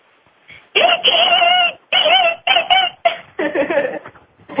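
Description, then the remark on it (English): A person's voice imitates dolphin calls in front of an audience, in a series of about five loud bursts of squeaky, warbling, rapidly wavering high-pitched sounds, separated by brief pauses, with no other talking. “It does have dolphin characteristics in it, I promise.”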